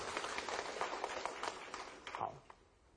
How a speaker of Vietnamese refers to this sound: Tốt, hãy tự cho mình một tràng pháo tay nào.